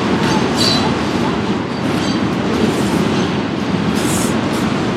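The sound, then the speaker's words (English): A train rumbles past just across the street, a loud, steady low roar with rhythmic clatter of wheels on rails and occasional high metallic hiss, filling the whole moment without pause. “That train is actually quite close to the thing.”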